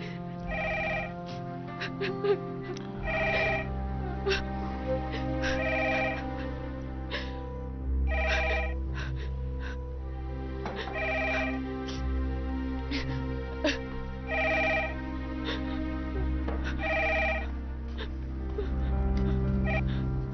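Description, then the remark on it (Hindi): A telephone rings over and over in evenly spaced bursts of bright, trilling bell tones, clear, above a steady low hum. “अरे कोई टेलीफोन का जवाब दे।”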